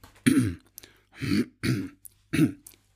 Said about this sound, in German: Deswegen habe ich überlegt, ob wir einfach ein Räuspern von dir nehmen. Ja. Weiß ich nicht, ja. So, wie so, weißt du, wie. Soll ich mal ein paar Räusper einsprechen, warte.